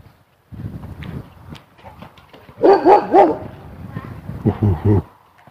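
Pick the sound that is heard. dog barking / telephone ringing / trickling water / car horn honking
dog barking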